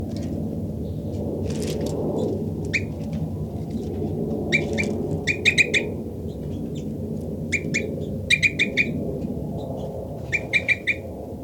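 Bursts of short, high chirping bird flight calls from bird 5-9, with three birds close together, come in quick clusters of three or four, repeated several times over a steady low rumble of background noise.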